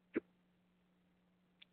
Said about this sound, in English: I've got the hiccups all of a sudden.